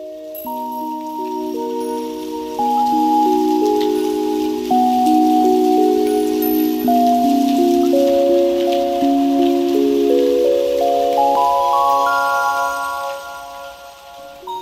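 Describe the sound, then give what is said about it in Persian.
Steady rain patters in the background while slow, sustained musical notes step downward and then rise over it, with no one speaking. “دقت کرده اید باران که می بارد چقدر مهربانتر می شوید؟”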